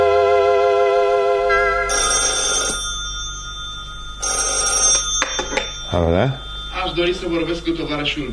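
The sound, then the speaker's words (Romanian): A telephone rings in two or three loud bursts with short pauses between, then a man starts talking as the ringing stops. “Da, la telefon.”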